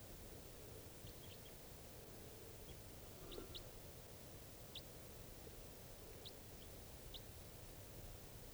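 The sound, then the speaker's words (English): Short, high chirping calls from one bird in a flock repeat at irregular intervals, several of them over about eight seconds, faint above a steady hiss of background noise, with no one speaking. “And there's one more bird in the flock calling here.”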